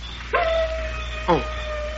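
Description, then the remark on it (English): A wolf gives two sharp, yipping barks about a second apart, with a thin, drawn-out whining tone lingering between them, clear against a low steady background. “Oh, listen. Darn wolf.”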